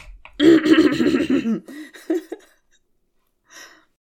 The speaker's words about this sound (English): It's hard breathing.